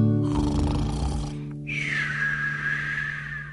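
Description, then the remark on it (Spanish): Voices imitate snoring: a rough, rattling low inhale followed by a long, drawn-out whistling exhale, loud with no other talk. “Ahora vamos a roncar.”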